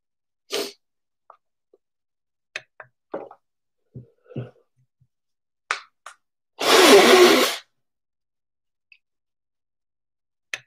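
A single loud, breathy blast of someone blowing their nose, lasting about a second, preceded by scattered small clicks and taps.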